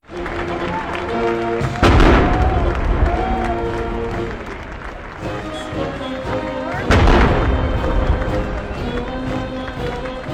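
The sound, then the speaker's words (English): Two loud, booming ceremonial cannon shots, part of 38 fired at a governor's inauguration on the steps of the Colorado Capitol, several seconds apart, each with a long rumbling decay, while voices murmur and talk continuously in the background. “The ceremony on the steps of the Capitol included an F-16 flyover and 38 cannon shots, symbolizing Colorado's status as the 38th state.”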